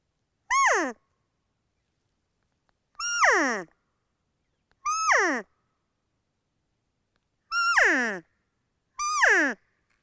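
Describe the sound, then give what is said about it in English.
Five high, nasal elk cow calls blown on an open reed call, each a short whiny mew sliding downward in pitch, spaced unevenly with silence between and no talking. “But there are times I just can't get a response from a bull with a diaphragm call, so I'll switch it up and just use an external open reed call for a different sound that might trigger a response from that bull.”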